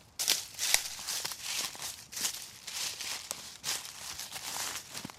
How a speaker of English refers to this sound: Already some leaves on the floor from the sycamores, early to come into leaf, early to drop their leaves. Listen to the crunching leaves in here.